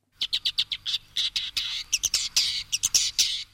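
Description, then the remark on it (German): A woodchat shrike calls in a rapid run of sharp, scratchy chirps and chattering notes, fairly loud, continuing nonstop for several seconds with no voices. “Das ist ein Rotkopfwürger.”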